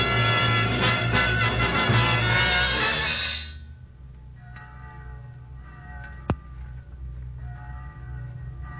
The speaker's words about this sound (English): Church bell? Oh, yes, yes, of course. Church bells are on God's side.